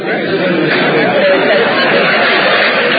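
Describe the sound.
Provincial deputies and the public of Bukavu applaud and cheer in the hall of the Provincial Assembly, welcoming the programme speeches of two candidates for governor, in a loud, unbroken wash of clapping and raised voices that holds steady for the whole three seconds, with crowd chatter mixed through it.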